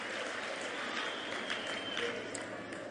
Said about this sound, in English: Finish and clap.